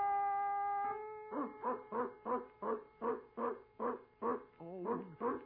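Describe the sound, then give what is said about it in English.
A mosquito's steady high buzzing tone breaks off, followed by a quick, evenly paced run of about a dozen loud dog barks or yaps, alone. “Presto change, your mosquito. Be a dog.”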